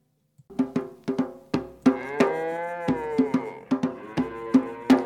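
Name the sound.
cows mooing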